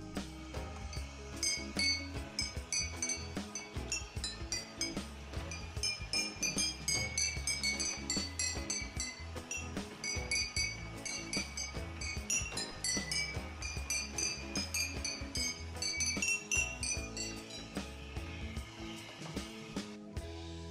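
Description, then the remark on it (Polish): Music played by a miniature Santa Claus figure striking giant glass bottles on the wing of a model Thai A380 at Miniatur Wunderland in Hamburg: bright, ringing clinks in a steady melodic rhythm, layered tones sustained over a low pulsing bass, continuous for about twenty seconds with no talking. “Widzimy tutaj A380 Thai na skrzydle Mikołaj, który gra na ogromnych butelkach.”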